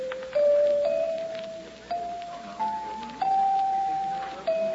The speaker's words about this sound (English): Wonder how much these chimes are.